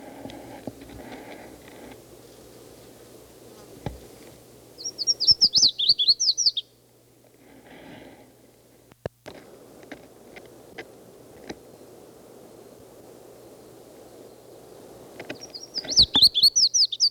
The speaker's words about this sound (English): It's a red-faced warbler again. This is after several other calls.